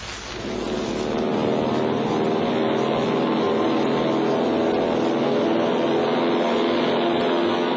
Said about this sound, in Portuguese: Nos aviões dos transportes aéreos portugueses chegará ao Porto numa hora e um quarto.